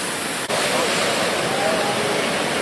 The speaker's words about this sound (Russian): Мы видим волны красивые. И там серферы отважные. И все это такое серенькое. туманненькое.